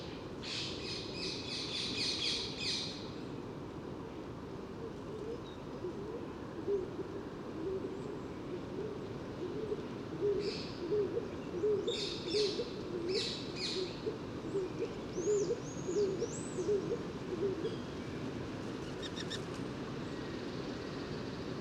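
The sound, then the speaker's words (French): A small gathering of five or six stock doves, small woodland pigeons, coo softly and continuously in a low, rolling murmur, while other small birds chirp and twitter in brief high bursts above it. “Et le roule-coulement caractéristique, très doux.”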